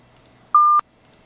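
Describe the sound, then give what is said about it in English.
A single short phone keypad tone as someone types in on a phone during a call, one clean steady beep lasting about a quarter second, loud against a faint, quiet background with no talking. “I'm going to have to type this in.”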